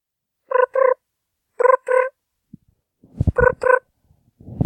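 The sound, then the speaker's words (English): A voice imitates chirping crickets with short, buzzy double chirps repeated a few times, fairly loud, with a lower, rougher burst of the same pattern near the end. “What's that sound supposed to be? Crickets?”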